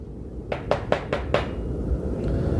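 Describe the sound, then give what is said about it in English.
Five sharp, evenly spaced knocks on the door of the firm of Scrooge and Marley in quick succession, rapping loudly over a low, steady background rumble, then a fading hum once the knocking stops. “Someone at the door.”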